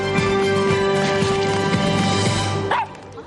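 A small dog, Winston from the animated short film Feast directed by Patrick Osborne, yaps and barks in short bursts over a steady musical backdrop, ending with a rising whimper before the sound drops away.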